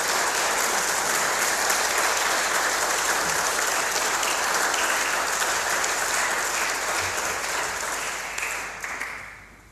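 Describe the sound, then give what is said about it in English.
A church audience applauds together to thank two people for their care of the building, a dense, steady wash of clapping from many hands that holds for several seconds and then tapers off near the end. No one speaks over it. “So maybe you just give them a little round of applause to say thank you.”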